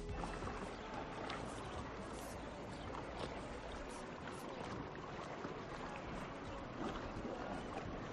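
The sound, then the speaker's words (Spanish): Sea waves break and wash along the rocky coves of Menorca in a continuous, fairly loud roar of churning water, with no voices throughout. “Esto que escucháis para mí es vacaciones, el sonido del mar rompiendo sobre las calas de Menorca.”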